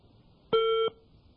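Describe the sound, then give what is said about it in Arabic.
A single short electronic beep from a phone line, a steady mid-pitched tone lasting about a third of a second, heard alone against faint background hiss as a caller's phone call to a sheikh, made to recite the Quran, cuts off. “قطع الاتصال.”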